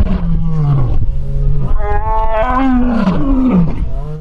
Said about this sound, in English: What the hell was that sound like? A sea lion? No, those are two lions roaring at the rest of the island. They're sitting on a rock like literal Lion King.